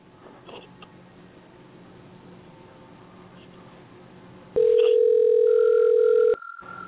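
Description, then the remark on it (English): A single loud, steady telephone ringing tone, the ringback heard when placing an outgoing call to a show guest in Northern California, sounds for nearly two seconds after a stretch of quiet low background noise. “Hey, we have a ringtone.”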